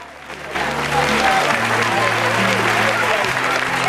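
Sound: audience applauding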